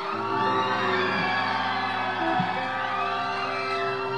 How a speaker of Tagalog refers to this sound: Pag ready na kayo, sumigaw lang po para alam namin kung tutugtog na kami.